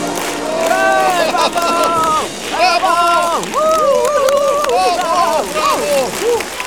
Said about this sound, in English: The audience clap and cheer.